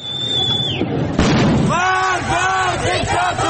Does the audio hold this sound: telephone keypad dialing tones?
no